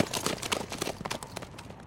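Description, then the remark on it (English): Horses gallop in a race in a rapid, uneven drumming of hoofbeats. Several animals pound close together with a steady rolling rhythm at moderate volume and no voices. “Two Wolves jumped his horse ahead of Bodine's, and the race was on.”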